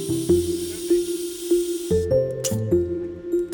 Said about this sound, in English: folding up chairs and emptying the water from each station's tools into a waste bucket.